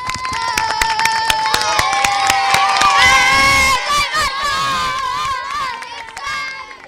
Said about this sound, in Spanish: Muchísimas gracias a todos. Le damos un aplauso a los profes y a la gente que nos ha acompañado. Le damos un aplauso, a ver cómo suena ese aplauso.